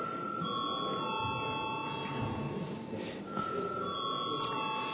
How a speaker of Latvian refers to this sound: Deputāti prasa balsojumu, lūdzu zvanu.